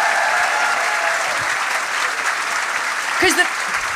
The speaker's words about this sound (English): A big round of applause for all these wonderful volunteers.